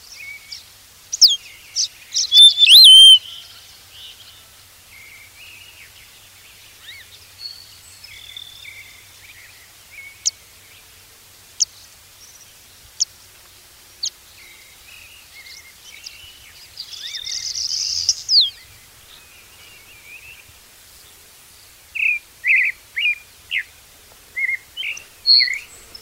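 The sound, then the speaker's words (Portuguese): High bird whistles and chirps scattered over quiet background, with a short burst early on, a buzzy note midway, and a series of repeated short whistled notes toward the end. No talking. “Não sei se vocês já ouviram, mas é um assobio que começa na mesma nota. Ele dá uma leve modulada e continua reto depois.”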